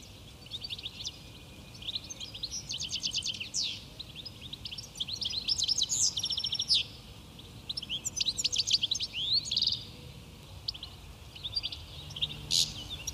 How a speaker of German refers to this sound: ist der Stieglitz-Gesang aber mit ein bisschen Übung meist relativ gut zu erkennen. Und ja, dieses Stieglit im Gesang, das wird dann eben auch oft so getrillert, dass das so ein Stieglitz-Lit wird.